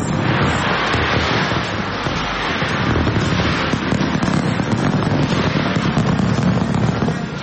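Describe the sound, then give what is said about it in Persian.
A continuous, dense roar of New Year fireworks bursting over the Sydney Opera House in Australia, loud and steady throughout with crackles and deep booms underneath, and no voices. “در استرالیا آتش‌بازی به مناسبت سال نو بر فراز ساختمان اپرای سیدنی که خیلی شهرت دارد صورت گرفت.”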